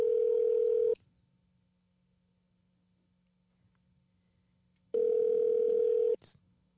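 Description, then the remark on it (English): A telephone ringback tone sounds in two steady, loud bursts about four seconds apart, with near silence between them and no one picking up. “Yeah, I think he's just going to keep ringing.”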